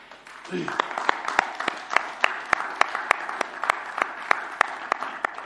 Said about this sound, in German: Ich würde gern zum Anfang erstmal noch einen ganz großen Applaus an unser Lobpreisteam geben.